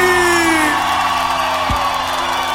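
A large crowd lets out a loud, sustained shout and cheer, with whoops and high voices blending into a dense roar that fills the whole moment without pause.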